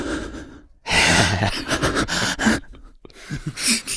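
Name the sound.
exaggerated loud breathing imitation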